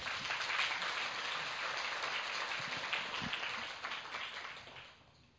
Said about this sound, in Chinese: 佢哋嗰种预备精神值唔值得我哋致敬？值唔值得？仲有俾我哋俾掌声佢哋。